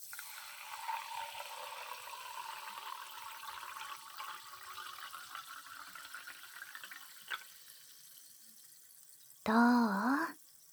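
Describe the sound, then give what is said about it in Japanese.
A new medicine is poured steadily into a glass for about nine seconds, a crackling, fizzing hiss with a faintly rising pitch as it fills, followed by a short burst of voice. “音するでしょ。シュワシュワって。”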